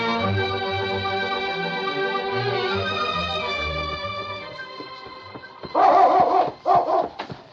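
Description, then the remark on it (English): Sustained orchestral music fades out, then a husky dog barks loudly beside a trail in the Yukon, three sharp barks in quick succession with brief gaps between them. “It was King's barking that called the sergeant's attention to the young Indian lying beside the trail.”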